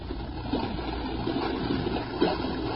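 Steady running stream water gurgles and trickles continuously as it carries a floating bottle along, an even wash of sound with small splashes rising now and then, no voices present.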